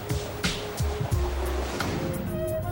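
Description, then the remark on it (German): Steady, rushing wash of ocean surf breaking on a shore, a continuous roar with a low rumble underneath and a faint hum, no voices present. “Wellenkraftwerke nutzen die Kraft der Wellen.”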